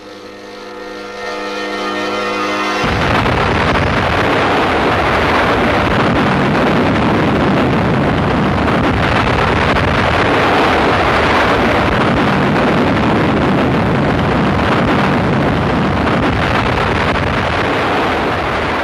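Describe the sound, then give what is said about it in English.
A French atomic bomb test explosion at Mururoa Atoll, 500 miles from Tahiti: after a brief steady tone, a loud, broad roar bursts in abruptly and keeps rumbling continuously, like a massive blast and its rolling aftermath. “After the explosion, a number of countries protested, but the French planned many more tests.”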